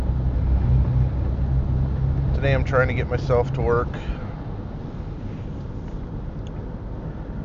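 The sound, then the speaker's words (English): A steady, loud rumble of a car driving through snow drifts on a snowy roadway after a storm fills the whole recording, easing slightly toward the end, while a man talks briefly near the middle. “Just as I was fiddling with the recorder there, I drive through some snow drifts.”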